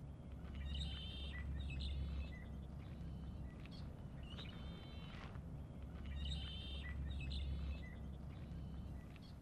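Several birds sing and chirp in repeated bursts of bright trills and tweets over a steady low outdoor rumble at a little lake among meadows and a swamp with bulrushes and some trees, with no one speaking.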